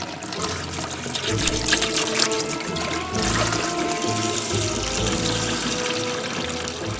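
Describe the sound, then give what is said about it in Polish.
Water gushes steadily from taps opened by cats and from damaged pipes, a loud, continuous splashing rush with a broad hiss that stays strong throughout, with no voices. “Odkręcały wszystkie krany, uszkodziły wszystkie rury. Woda więc tryskała zewsząd, z każdej wanny, z każdej dziury.”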